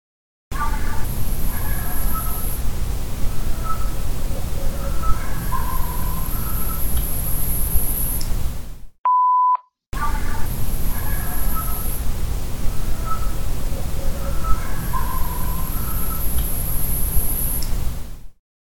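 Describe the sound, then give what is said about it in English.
Faint barks sound over a steady hiss, with three thin whistles drifting above them. The sequence plays twice, separated by a short electronic beep. “Here's some more barks, but notice these like weird whistles over top of the barks. There's three whistles.”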